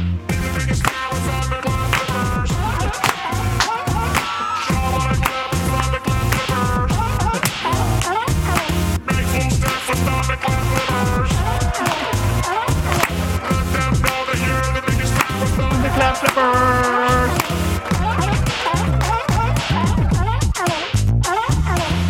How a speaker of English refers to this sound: Now here's the jingle. Of course, there's going to be slap sound effects.